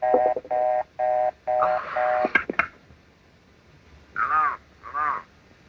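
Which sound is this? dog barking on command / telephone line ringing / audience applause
telephone line ringing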